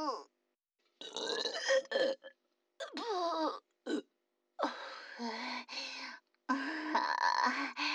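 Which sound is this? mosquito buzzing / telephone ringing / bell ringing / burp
burp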